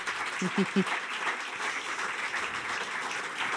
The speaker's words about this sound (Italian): Un applauso a voi che siete venuti nonostante la pioggia.